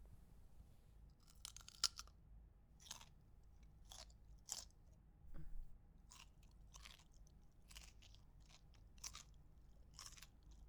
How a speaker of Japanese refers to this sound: 新鮮ですから美味しいですよ。多分暑いですね、やっぱり。おいしい。うるさいくらいポリポリですね。